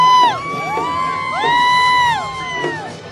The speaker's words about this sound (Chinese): 沿途的观众看到法轮功学员的队伍，热情高涨，欢呼声和掌声不断。